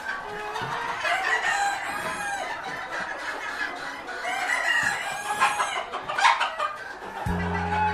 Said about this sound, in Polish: kury padewskie, miniatury. Złote z czarną obwódką i srebrne z czarną obwódką. One pochodzą prawdopodobnie z Azji. Później zostały przewiezione do Europy w okolice Padwy i stąd ta nazwa kury padewskie. One mają czub i taką brodę.